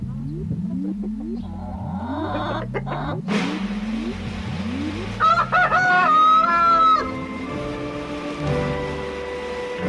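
A rooster crows loudly in the middle, with chickens clucking around it, while a repetitive low mechanical rumble, like an engine revving, runs underneath throughout.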